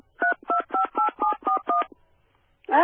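Seven short, evenly spaced telephone keypad tones beep in quick succession, each a steady two-note electronic tone, followed by a brief pause before a voice starts speaking.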